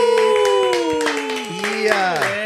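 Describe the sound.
Audience applause for an invited guest, with scattered claps punctuating sustained, wavering cheers and whoops from several voices, holding steady and fairly loud for a couple of seconds.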